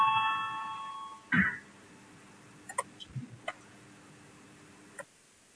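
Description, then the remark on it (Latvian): A parliament voting bell rings with a steady, harmonic electronic tone for just over a second, called to start the vote on the 85th proposal, from deputy Kabānovs, followed by a short thump and a scattering of faint clicks and taps. “Lūdzu zvanu, balsosim par 85. deputātu Kabānova priekšlikumu.”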